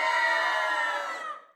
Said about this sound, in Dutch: Hij drukt op een knopje en dan gaat de raket draaien. Ze schrikken heel erg en gillen van angst.